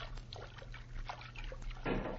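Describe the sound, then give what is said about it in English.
Water sloshes and splashes in soft, irregular bursts as someone wades through a river toward the bank, ending in a fuller splash; a low steady hum runs underneath. “Now we are at the bank. Make no noise, Pancho. Now, crawl out of the water.”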